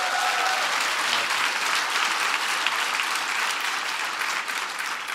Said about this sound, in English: So give Strive a big round of applause.